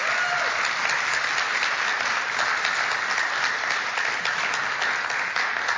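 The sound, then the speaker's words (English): Sustained audience applause for the little ones of this year's VBS, a dense wash of many hands clapping at steady loudness for several seconds, with no voices standing out above it. “Can we please give them a round of applause for the little ones?”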